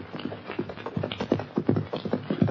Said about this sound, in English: Hopalong Cassidy and his sidekick, California, have just turned their horses into the corral and are heading for the Bar 20 ranch house when a horse and rider bear down on them at a fast gallop.